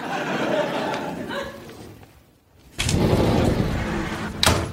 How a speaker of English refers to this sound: Oh, isn't that just like a haunted house? Doors moving around, preventing escape.